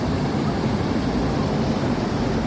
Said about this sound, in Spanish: Esto que escuchas ahora es uno de los sonidos más relajantes que hay, según los expertos auditivos. Es el sonido del mar, el sonido de las olas, que se escucha amplificado en el Elogio del Horizonte.